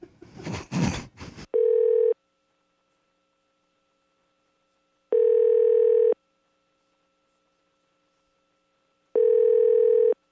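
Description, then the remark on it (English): A brief clatter, then a telephone line tone after hang-up: three steady, moderately loud electronic beeps, each about a second long, repeating every few seconds with silence between. “Are you always that quick to hang up the phone”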